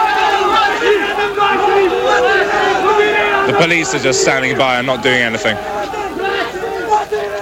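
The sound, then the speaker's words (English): A large crowd storms through the burst-open gates of the Supreme Court, following a member of parliament who climbed the gates and running towards the court, in a steady roar of yelling and clamour, with a burst of loud shouting midway. A man speaks over the din throughout. “The gates have burst open and people are now running towards the Supreme Court.”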